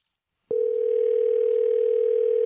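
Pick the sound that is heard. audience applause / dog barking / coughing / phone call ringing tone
phone call ringing tone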